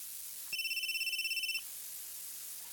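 A mobile phone rings with a rapid electronic trill, pulsing steadily for about a second before cutting off, clear, with no one speaking.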